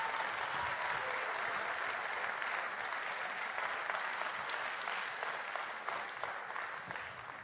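An audience applauds steadily for several seconds, a dense wash of many hands clapping at an even, fairly loud level that eases slightly toward the end, with no voices on top.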